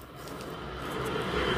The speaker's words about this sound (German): Und das liegt nicht an dem Zug, der hier gerade vorbeifährt.